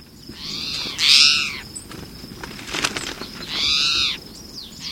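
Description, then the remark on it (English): A towhee gives two loud, harsh, drawn-out calls about three seconds apart, over a constant low rustle and scratching as it scuffles and feeds in leaf litter. “In the meantime, juncos and birds like this towhee will scuffle and feed in the leaf litter.”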